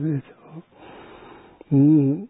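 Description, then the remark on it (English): During a nine-round breathing meditation exercise, a long, airy breath of about a second sits between short voiced, hum-like vocal sounds, the breath softer and steady, the voice returning louder at the end. “So now, this go 9 round breathing.”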